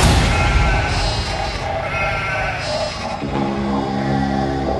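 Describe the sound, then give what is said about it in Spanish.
Sheep bleat in a continuous, overlapping chorus, several animals calling at once, fairly loud, with a steady rough wavering tone that carries through the whole stretch. “Todas las ovejas se parecen. Sin embargo, hay algunas que son su propio rebaño.”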